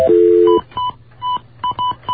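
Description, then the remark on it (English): A telephone number being dialed: a steady dial tone gives way to a quick, uneven series of about six high touch-tone beeps, each short and clear, with no voices. “Please dial the number that you're calling now.”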